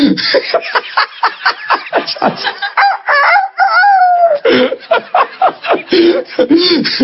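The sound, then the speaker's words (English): A man mimics a rooster crowing with his voice, a drawn-out wavering call in the middle, framed by choppy clucking and chuckling sounds, fairly loud. “Do you ever go to a barnyard and the old rooster meet you on the lane?”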